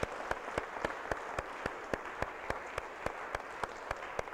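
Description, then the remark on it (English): An audience applauds steadily, a dense wash of clapping with a sharp, evenly spaced clap cutting through about three times a second, holding a steady level throughout with no voices. “Let's cheer for those past hours. Let's give them a hand.”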